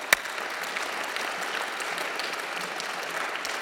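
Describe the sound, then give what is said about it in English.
An audience applauds the award-winning Ushahidi blog, clapping steadily in a dense, even wash of many hands that holds at a constant level for several seconds, with one sharp louder clap near the start. “Let's give a big round of applause for the Ushahidi blog.”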